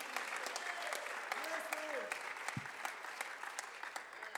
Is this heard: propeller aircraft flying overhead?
no